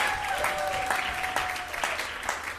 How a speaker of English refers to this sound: And how about another round of applause for Robin Maynard? Thank you, Robin.